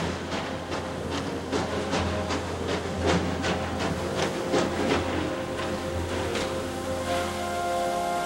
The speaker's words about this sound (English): A train track bisects the bare courtyard, cutting through an archway below a towering gatehouse. There, three headlights appear in the darkness, and slowly, a train rolls into the compound, its plume of smoke tinted blue by a swinging spotlight.